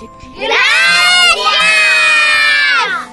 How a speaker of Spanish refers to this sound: A ver, doctor, ¿cuándo midió nuestro grito? De hecho, fue más que la porra, porque el grito de gracias fue 103.2.